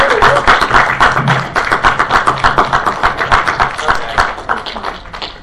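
A round of applause from a small group: dense, brisk clapping that holds steady for about five seconds before tapering off slightly at the end, with a faint voice briefly underneath.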